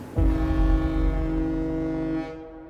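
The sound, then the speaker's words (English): A single loud horn blast from one of several anchored cargo ships at least a mile off on the ocean, a deep, steady low-pitched drone rich in harmonics that sounds for about two seconds before cutting off, with no voices. “And then out of nowhere, one of the ships lets out a loud blast of its horn.”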